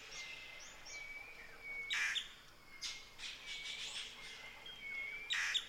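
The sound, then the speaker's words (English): Birds sing and chirp in a lively outdoor chorus, with thin whistled notes and bursts of bright, raspy calls layered over a soft, steady background hiss, moderately loud. “The river, the birds, the insects, they're our neighbors, and they're talking with us.”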